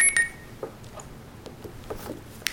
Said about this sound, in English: I'm sorry, my phone rang.